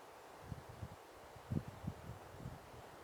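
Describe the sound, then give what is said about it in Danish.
Soft wind outdoors, a steady faint hiss with a few low gusting rumbles buffeting the microphone, a gentle breeze at a forest edge with no voices. “Jeg takker af her fra skovbrynet, hvor vi har haft lidt vind og en pussy lyd af et, jeg tror det er en fugl, der har været forbi os nogle gange.”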